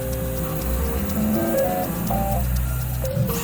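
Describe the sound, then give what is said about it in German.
A Revo Foods 3D food printer producing vegan salmon in a cellar vault in Vienna's 8th district, its motors humming steadily with shifting whining tones and occasional soft clicks, with no one speaking. “hören hier einen 3D-Drucker von Revo Foods, der gerade veganen Lachs produziert.”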